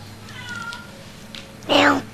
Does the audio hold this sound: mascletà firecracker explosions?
no